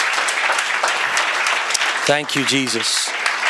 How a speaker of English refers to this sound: Let's give Jesus a clap off and a praise.